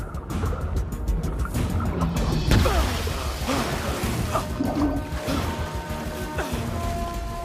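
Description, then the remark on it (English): Steady, churning water splashing from a man swimming with his head above water through an ice-flecked river, half swimming and half scrambling over ice, with irregular knocks and cracking impacts mixed in, loud throughout, with no clear speech. “Head above the water, he swims through the ice-flecked river.”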